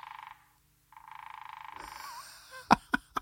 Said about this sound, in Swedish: Det är en hackspett. Ja, den hackar. Den sitter på en gren och så hackar den kanske i stammen. Och då låter det så där. Alltså otroligt ju.